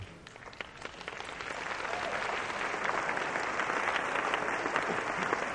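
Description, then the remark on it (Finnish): A church audience gives applause to Jesus, dense overlapping clapping that starts a little lighter and swells into a steady, loud wash of hands, sustained for several seconds with no voices. “Annetaan kunnon aplodit Jeesukselle.”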